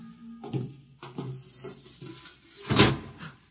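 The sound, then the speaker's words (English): A door to the main control room slides along with a low mechanical rumble and scraping, ending in a loud thud as it shuts. “door, Bobo.”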